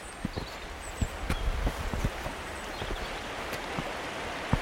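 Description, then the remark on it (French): A mountain torrent flowing not far away rushes in a steady, full hiss, with scattered hollow knocks and taps through it and faint high bird chirps now and then. No one speaks. “Alors on a ce torrent là qui coule pas loin.”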